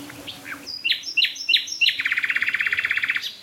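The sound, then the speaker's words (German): Four nightingales singing over one another at once: a few sharp descending whistles, then a fast, bright trill that repeats steadily for over a second, with thinner high notes layered above. No one speaks. “Also wir hören jetzt gerade, ich höre jetzt gerade vier Nachtigallen gleichzeitig.”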